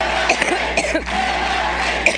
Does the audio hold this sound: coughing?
yes